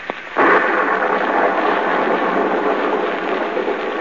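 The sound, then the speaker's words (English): A brief crack of thunder, then a heavy storm downpour swells into a dense, steady roar of rain on a muddy road by a small stone courthouse in the southern village of Marsdenburg under a lightning-streaked sky, holding at a loud, even level throughout, with no voices. “Gaze up this muddy, rain-splattered road. A small, lonely stone building appears against the lightning-streaked sky.”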